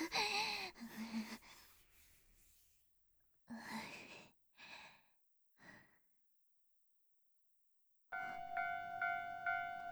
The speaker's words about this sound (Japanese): あ、電車来た。